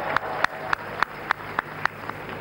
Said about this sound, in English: Let's put our hands together for him.